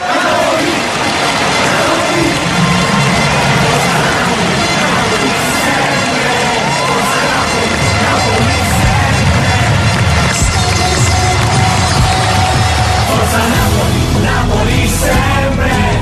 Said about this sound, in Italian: Sento da lontano il grido della gente. Forza Napoli, Napoli sempre.